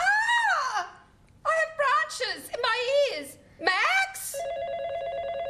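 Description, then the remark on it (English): Bright, high-pitched voices chatter in short bursts, then a steady electronic telephone ring, a call at night from the closest neighbour, starts and holds unbroken to the end, a sustained buzzing tone at moderate volume. “our closest neighbour, rings with more bad news.”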